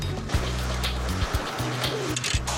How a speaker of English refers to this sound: Is that rain? Yeah. Oh, man. We better finish up. Y'all hear that?